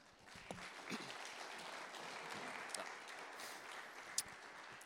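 An audience applauds steadily, a dense wash of clapping hands with a few sharper claps popping out above the crowd, holding an even, moderate loudness throughout.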